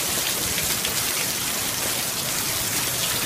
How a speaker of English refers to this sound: An unbelievable amount of rain on New York's Long Island.